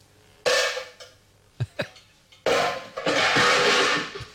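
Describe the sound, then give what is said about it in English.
Loud, harsh metallic clanging of cooking pots being banged: a crash, two sharp knocks, then a longer ringing clatter, with no talking. “You've been banging on your pots again, haven't you?”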